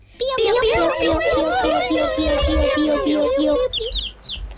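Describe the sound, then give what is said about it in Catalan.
A voice imitates a chick's cheeping with a steady stream of rapid, high, whistly peeps, ending with a few brief, sharper chirps. “I un pollet.”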